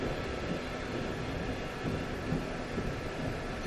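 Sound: train running on rails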